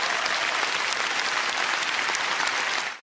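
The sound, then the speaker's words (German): A crowd claps steadily for about three seconds, a dense, even wash of many hands with no voices, holding at a constant loudness before cutting off abruptly at the end. “Ja, und da klatschen sie natürlich auch, wenn ihnen mal ein Kind so richtig ins Gewissen redet.”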